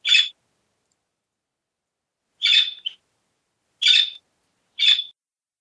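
A budgie (parakeet) gives four short, bright chirps with long pauses between them, fairly clear against an otherwise silent background.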